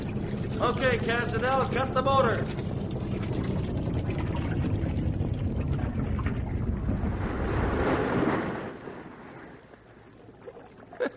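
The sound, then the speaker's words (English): A boat motor on a river drones steadily with water and wind noise, then cuts out as the motor is shut off, leaving a quiet lapping stillness. Indistinct voices are heard early on. “cut the motor.”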